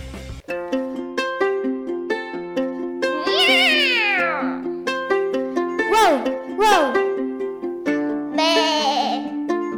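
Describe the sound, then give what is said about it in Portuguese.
A cat meows loudly about four times, drawn-out cries rising and falling, over a bright, steady tune of plucked or piano-like notes playing throughout. “Todos e todas, preparade os vosos flocos de millo porque hoxe vamos a falar do día 6 de abril que celebra o Día Mundial do Gato Siamés.”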